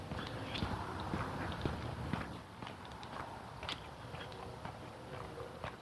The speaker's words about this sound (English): The woodblock metronome has two tones. It's because of tick-tock sound. Another tick is on my right foot. It wasn't my left foot.